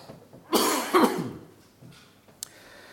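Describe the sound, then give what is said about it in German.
Two harsh coughs in quick succession from a person who has had a cough for two weeks, the second trailing into a throaty rasp, followed by a faint breath and a tiny click. “Und manchmal kann es sein, dass ich huste.”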